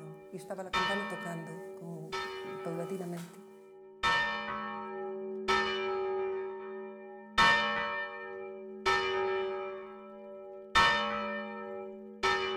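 A large church bell, the esquilón, tolls repeatedly at a slow, steady pace before the 8 o'clock mass, each loud strike ringing out with a long shimmering decay before the next. Faint voices murmur briefly near the start.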